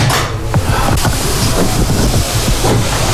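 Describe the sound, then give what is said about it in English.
A locomotive pulls slowly into a station platform from a single-line track, its heavy, steady rumble filling the scene with a few faint clanks, loud throughout, with no voices. “So we have one of the locomotives coming into the platform, into the station now.”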